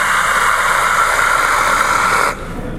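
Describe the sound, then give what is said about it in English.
A voice imitates the noise of a faulty Cadillac Cimarron with a steady, harsh, hissing whine held for a little over two seconds before it cuts off abruptly. “But one of the things that was very defining was the fact that it would make a very audible sound whenever you'd hear the car. It would just kind of make this.”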